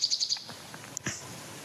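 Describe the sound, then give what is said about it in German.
A male nightingale sings a quick run of four bright, evenly spaced notes, followed by a sharp whistle and a brief buzzy phrase, clear against a quiet background. “Also herzlich willkommen zu einem kurzen Intermezzo mit unserem guten Freund Nachtigall.”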